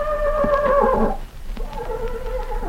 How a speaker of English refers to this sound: And that was my famous movie Horse Tarzan, working his head out to say hello to all you riding pals.